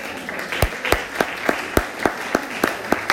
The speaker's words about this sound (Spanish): El aplauso al Señor.